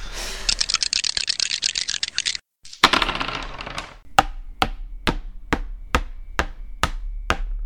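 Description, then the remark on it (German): A player rolls dice on their turn: dice rattle and clatter for a couple of seconds, a short tumbling burst follows, then a steady series of sharp, evenly spaced clicks against a hard surface. No one speaks. “Ja, ich würfel jetzt mal.”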